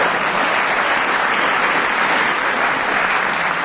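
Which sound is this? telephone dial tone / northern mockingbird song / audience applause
audience applause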